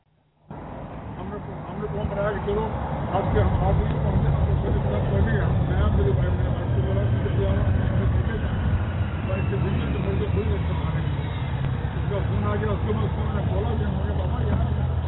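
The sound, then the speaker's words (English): A man yells loudly and continuously into his cell phone out on a street in the Bay Area, his voice raised over a heavy, steady rumble of street traffic, with a bus idling and droning in the background. “My neighbor is out on the street yelling into his cell phone.”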